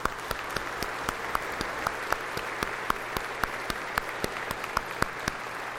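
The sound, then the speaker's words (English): A round of applause from a crowd for the confirmation teachers and the Director of Youth and Children's Ministry: dense, steady clapping with a few sharper claps standing out, sustained at moderate loudness for several seconds with no talking over it. “if you would stand, and we can give you a round of applause.”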